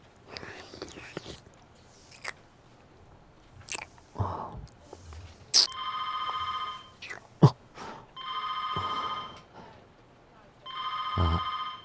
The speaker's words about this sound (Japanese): 電話鳴ってるよ。早く出ろよ。